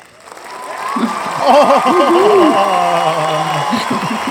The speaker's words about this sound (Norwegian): Oh! Jeg vet du var litt nervøs om du også skulle få en publikumsvelkomst. Har du funnet de rette knappene?